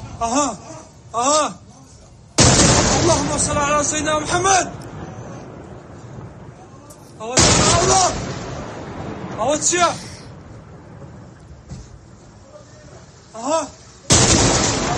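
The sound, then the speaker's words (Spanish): Missile strikes and explosions: three loud, sudden blasts with harsh rumbling tails, spaced several seconds apart, while agitated voices shout and talk between and over them. “Bueno, en el mundo, madre mía, muchísimo ruido, concretamente el de misiles.”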